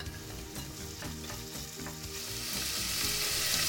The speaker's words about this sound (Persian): میذاریم یکم روغن گرم بشه، من پیاز رو به اون اضافه میکنم.